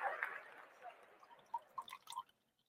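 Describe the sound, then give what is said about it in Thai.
Tea pours into a cup, a brief soft splashing stream that tapers into several distinct drips over a couple of seconds. “เทน้ำชาหน่อย”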